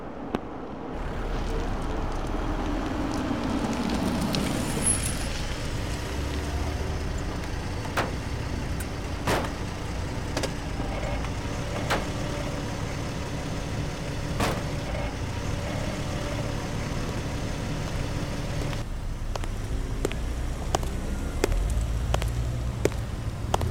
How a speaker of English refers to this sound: I believe his cab is arriving now.